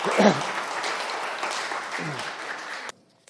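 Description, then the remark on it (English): An audience at a church baptism service claps together for the minister who performed the baptisms, a dense, steady burst of applause lasting a few seconds, with a brief voice at the start, before it cuts off abruptly into near silence. “So I think we should give him a round of applause as well.”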